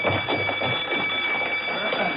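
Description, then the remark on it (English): Emergency alarm bells ring continuously throughout a training center at a steady high pitch, unbroken for the whole stretch, over a busy murmur of voices and running feet as men rush to the main hall. “A few moments after that, bells rang throughout the center, followed by the sounds of running feet as the men rushed to the main hall for instructions.”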